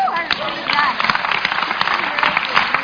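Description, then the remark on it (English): A crowd at a class claps steadily and continuously, clapping as a sign of belief in the name of Jesus, a dense, bright patter of many hands, with voices calling out and cheering mixed in throughout. “Clap like you believe that right now in the name of Jesus.”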